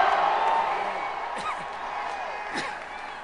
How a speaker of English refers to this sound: it's a very raucous crowd here at Kerry headquarters at the old post office in Washington. Ted Kennedy was just speaking and warming up the crowd. And John Kerry himself has just stepped to the podium.